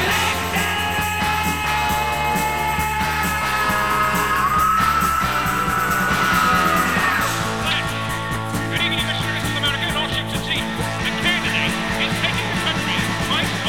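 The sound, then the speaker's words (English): A male rock singer lets out a sustained, strained scream on the chorus over loud, dense guitars and drums, the raw vocal rising above the full band mix before the music shifts into a heavier section. “Listen to this scream here.”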